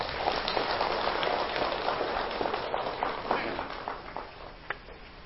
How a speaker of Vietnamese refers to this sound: Và nếu ai thấy điều đó là rất cần thiết và làm được trong tầm tay của mình, thì hãy dâng cao một tràng pháo tay thật lớn.